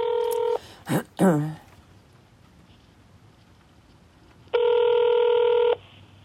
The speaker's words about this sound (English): Then I didn't hear from my mother, and I would call her cell phone, no answer, and I would call her room phone, no answer.